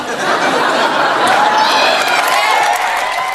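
A large crowd at the TV Week Gold Logie awards roars with cheering and applause as Waleed Ali claims the award, a loud, steady wash of clapping and shouting voices that holds strong for the whole few seconds, with occasional whoops rising above it.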